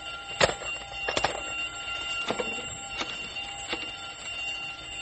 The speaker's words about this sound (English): The alarm means that whatever's escaped is now out of the building and onto the grounds.